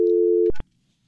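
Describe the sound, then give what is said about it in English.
A steady electronic telephone line tone hums for about half a second, then cuts off with a couple of clicks, leaving near silence, like a call that failed to connect. “hold on, can you just hot up the phone? Oh yeah, let's, there you go. Can you hear?”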